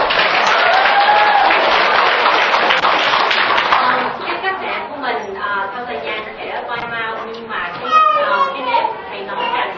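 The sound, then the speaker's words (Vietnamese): The men's side of an audience breaks into loud, dense applause for a female Buddhist lay follower who has stood up to speak; after the first few seconds the clapping thins out as a mix of voices and lively chatter, including children, takes over. “Trước hết bên nam và cho một tràng vỗ tay đi ha.”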